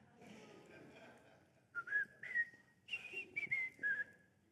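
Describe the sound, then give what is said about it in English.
A person whistles a short, bright melody of a TV theme tune, the notes rising and falling in quick phrases after a brief quiet start. “I could start whistling the theme to the Andy Griffith Show.”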